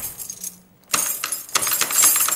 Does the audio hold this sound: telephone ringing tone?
no